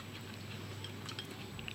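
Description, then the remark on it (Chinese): Quiet chewing of crisp raw Hokkaido onion, a handful of small crunchy bites spaced unevenly over a steady low background hum, with no talking. “我哋試下呢、這個呢、這個洋葱，呢、這個咧就係我哋咧依家賣個呢、這個係咪咩？”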